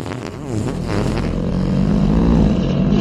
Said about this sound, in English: The fart echoes along tunnels.